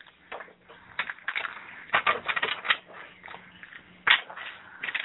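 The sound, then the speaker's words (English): Rapid, papery riffling and flicking bursts as a deck of playing cards is shuffled, in several uneven flurries with brief pauses between them and no voices. “Okay, stop shuffling. Pile 1, 2, or 3?”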